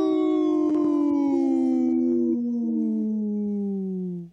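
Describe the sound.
A person's voice imitates a wolf howl on Native Roots Radio, in a segment supported by Howling for Wolves: one long, sustained, slowly falling tone, loud, tapering off at the end.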